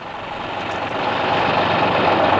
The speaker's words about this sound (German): erlaubte ihm, mit Patrick, dem Angestellten der Firma, in dem kleinen Lastwagen loszufahren